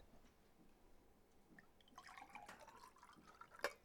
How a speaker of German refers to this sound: Wir kommen zum Punkt 2, nachdem ich mir ein Glas Wasser eingeschenkt habe.